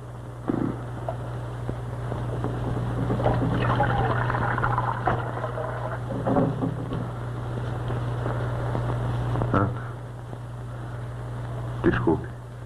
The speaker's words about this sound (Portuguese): Quer encher isso de água?